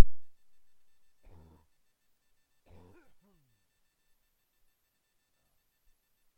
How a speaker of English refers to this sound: Let me clear my throat a little bit here.